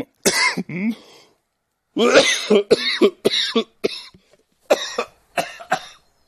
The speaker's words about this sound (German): Entschuldigung, Goethe hat nie gehustet.